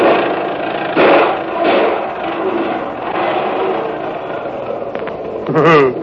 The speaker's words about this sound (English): You better get that old lady to stop that crate before it blows us all sky high. Man, please stop the engine, will you?